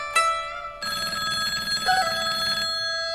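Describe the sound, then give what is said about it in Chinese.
A landline telephone bell rings loudly at home, a brief opening jangle followed by a longer, sustained metallic ring, with no voices present. “妈妈不在家，我连电话都接不了，哎，真没用。”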